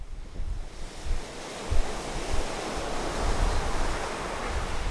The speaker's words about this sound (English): Through the doorway, we can see the ocean waves break in the near distance.